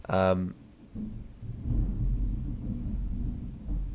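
thunder crash

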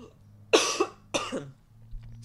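coughing

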